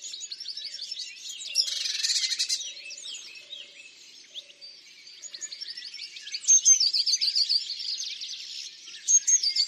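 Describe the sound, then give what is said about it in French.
A blue tit calls in a busy stream of high, thin chirps and rapid trills, fairly loud, with a harsher buzzy burst early on and no voices. “Ça, c'est une mésange bleue.”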